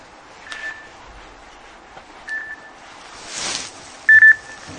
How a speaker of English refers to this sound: is that my phone?